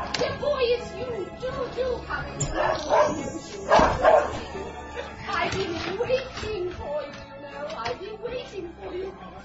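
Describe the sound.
A dog barks in several sharp bursts with short gaps between them, while a voice talks over and around the barking.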